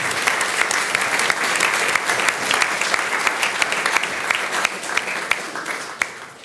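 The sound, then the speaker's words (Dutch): An audience claps steadily for several seconds to welcome musicians onto the stage, dense applause with scattered sharper individual claps, loud, tapering slightly at the end. No one speaks over it. “En wel onder tafel van applaus om te beginnen van Esther en mij en van ons allemaal.”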